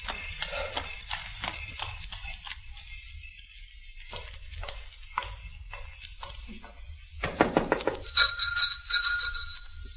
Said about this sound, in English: And late one summer night, when the shutters had long been closed on the windows, a four-wheeler drew up at that door in the gaslit street.